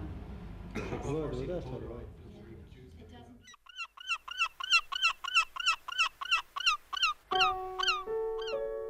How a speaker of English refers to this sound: Sea birds come in from the coast. The city wisdom is they bring rain. I watch them from my doorway.